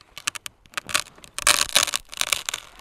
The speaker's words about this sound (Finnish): Otapa kiinni nyt, kun se kaatuu, joo, että se ei mene oksa joo poikki.